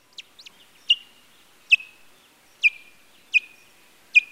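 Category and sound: bird, white-tailed kite calls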